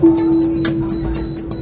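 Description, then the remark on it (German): A door closes amid a steady mechanical hum, with a few sharp clicks and a dull low thump partway through; no one speaks. “Tür schließt.”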